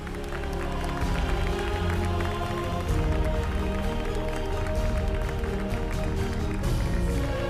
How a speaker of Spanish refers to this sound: ¡Un aplauso para todos los festeros!